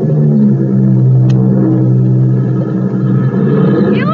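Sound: seaplane engine roaring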